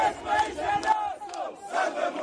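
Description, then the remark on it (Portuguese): A crowd of protesters, gathered around the site of an assassination despite a strong police presence, shouting the refrain of an election campaign in a rhythmic chant in unison, loud voices rising and falling in repeated bursts with no single speaker standing out. “Apesar da forte presença policial, os manifestantes reuniram-se à volta do local do assassinato e foram gritando alto e a bom som o refrão que marcou a campanha eleitoral.”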